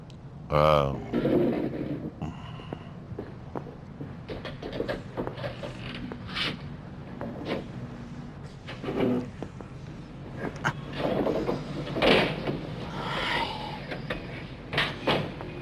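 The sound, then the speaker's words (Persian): An electric fan struggles and fails to start, its mechanism giving off repeated irregular clicks and clattering knocks, with some voices murmuring underneath. “نمیدونم این پنکه چه مرگیشه، نمیشه راش انداخت.”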